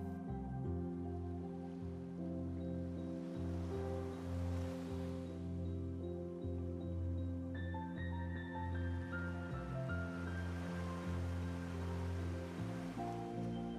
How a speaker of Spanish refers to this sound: Entre ramas puedes volver a intuir el otro lado de la isla. Pues escuchas las suaves olas del mar de nuevo.